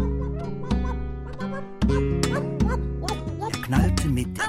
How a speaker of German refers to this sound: Laut, der hat der Hund ihn angewaut.